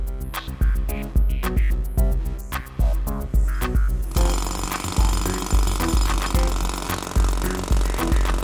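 Construction site din with a jackhammer where a hotel is being built: rhythmic, repeated pounding bursts, then a denser, continuous rattling clatter that fills the second half, loud, with no voices.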